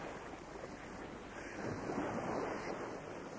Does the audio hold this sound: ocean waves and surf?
yes